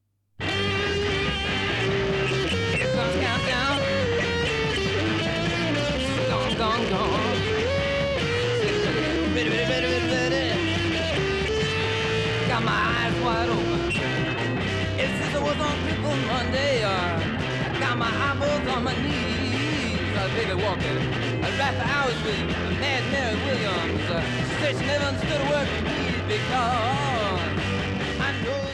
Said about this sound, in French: La Gretsch crache des Larsen et des mugissements raccord avec l'excitation du chant.